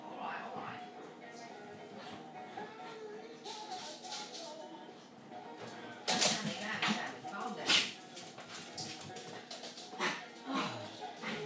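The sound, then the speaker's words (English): A dog whimpers, then gives a few short, sharp coughs, with two louder bursts in the middle and quieter snuffling sounds around them. “He's made himself cough now.”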